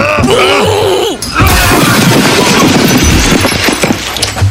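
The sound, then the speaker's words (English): A short strained groan gives way to a loud, sudden crash of a plate glass booth shattering as someone is thrown through it, followed by several seconds of crackling, tinkling debris and noisy commotion, intense. “I love the sound of breaking glass in the morning.”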